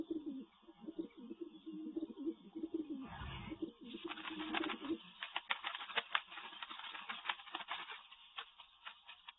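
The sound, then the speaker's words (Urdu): A pigeon coos in low, throaty murmurs for a few seconds as ointment is put on it, then the cooing gives way to a burst of rustling, fluttering clicks. No one speaks. “چلیے آئے اس کبوتر کو مرہم لگاتے ہیں.”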